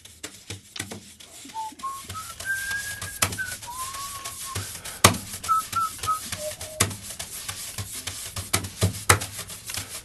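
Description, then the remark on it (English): A person whistles a short, wandering melody of clear notes over a steady rustling, scraping texture punctuated by sharp clicks and taps, like brushes on a drum. “When I play snare drum, I very much whistle like.”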